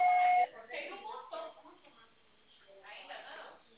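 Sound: voicemail recording beep tone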